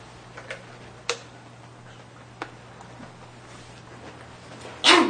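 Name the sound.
sneeze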